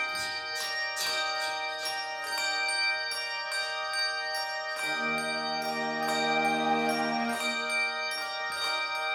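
Bells ring in a steady, overlapping peal, each strike sharp and followed by a long shimmering ring. The chimes are loud, and no voices are heard.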